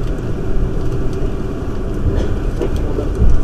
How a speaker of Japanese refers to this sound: この電車は急行能登号金沢行きです。